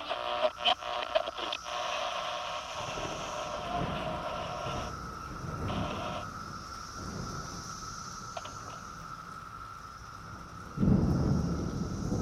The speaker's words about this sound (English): Is that real thunder and rain? Or were you beating a piece of sheet metal?